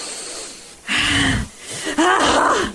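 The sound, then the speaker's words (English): Two sharp, loud gasping breaths from a person under an ice-cold shower, focusing on deep breathing, cut through a steady background hiss, each a strained, voiced intake followed by heavy exhalation, with no speech. “Are you holding the phone in your nasal passage? Because it sounds like it's in a wind tunnel.”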